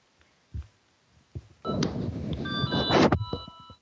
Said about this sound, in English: Okay, I was just turning my mic off because there's a phone ringing in the background. As you can probably hear.